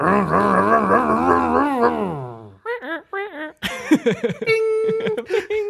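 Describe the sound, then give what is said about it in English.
A man's voice mimics a roaring engine, a rumbling, wobbling growl for about two seconds that winds down, followed by choppy vocal sputters and revving bursts. “Gives me fuel to keep the Command Zone podcast engine a roaring. Our engine, yeah. No, wait. I want to redo our engine noise.”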